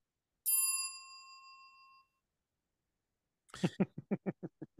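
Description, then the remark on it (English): A bright, clear notification bell dings once and rings out, fading over about a second and a half, followed after a pause by a quick run of short, rough bursts. “If you haven't already, please make sure to like, subscribe, and click the notification bell.”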